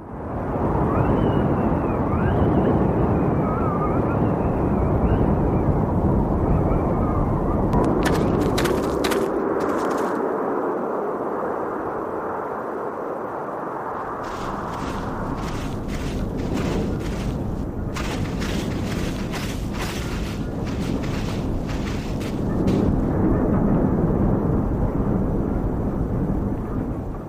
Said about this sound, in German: Und das ist so eine winddurchpfiffene Ebene, da ist also ständig dieses Windheulen zu hören, und es variiert aber subtil, je nachdem, an welchen Ort man geht. Und das kann man hier sehr schön raushören, denke ich.